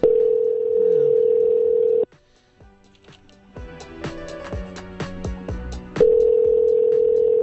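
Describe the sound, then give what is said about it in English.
A steady electronic ringback tone purrs on a phone line for about two seconds, falls silent while faint musical tones play, then rings again, clear, as a telephone call is placed and left to ring several times before going to a greeting. “You have to let it ring several times, then it goes to whatever their greeting is.”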